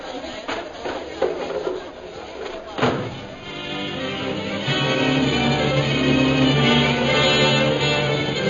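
A table is knocked over with a few heavy wooden thuds and clatters in the first three seconds, followed by a steady, low droning background that swells slightly.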